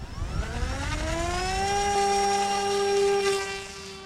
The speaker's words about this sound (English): the propeller will then speed up and get to its appropriate RPMs for takeoff